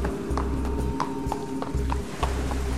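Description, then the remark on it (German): Horse hooves clip-clop at a steady walking pace, about eight even beats, heard inside a cave, the sound entering through a rock crevice, over a constant low rumbling hum. No one speaks. “Das Geräusch der Pferdehufe muss durch eine Felsspalte in die Höhle gedrungen sein.”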